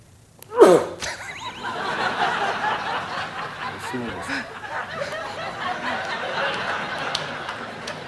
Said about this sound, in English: Real people. They sneezed. That's why I wasn't saying anything. I was trying to quell a sneeze, and I couldn't, and it just came out.